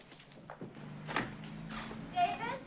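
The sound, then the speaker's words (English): The front door of a house bangs open with a few quick clattering knocks as a boy dashes out, with people's voices talking over it. “Her son runs out the door.”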